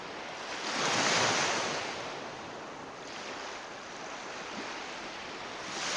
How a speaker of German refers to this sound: Stell dir vor, du liegst am Strand. Du fühlst den Sand unter dir, den leichten warmen Wind, der über deine Haut streicht, und du hörst den Wellen zu, wie diese an den Strand gespült werden.